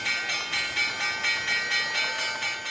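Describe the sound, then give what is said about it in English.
The Wall Street stock market closing bell, a loud electric bell, rings continuously for a few seconds, its bright metallic clang pulsing in a quick, steady rhythm with no voices over it. “Hey, man, let's hit the closing bell.”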